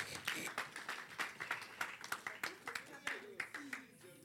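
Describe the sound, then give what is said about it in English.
An audience claps steadily for the Lord Jesus during a sermon, many hands producing a dense, rhythmic patter of sharp claps throughout, with faint voices mixed underneath. “Clap for the Lord Jesus.”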